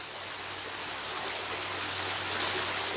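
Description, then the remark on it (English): Steady, rushing water splashes continuously at a moderate level from a fountain in Rome, with a faint low hum underneath and no voices. “Everywhere you turn, there's a water spigot or just a beautiful fountain.”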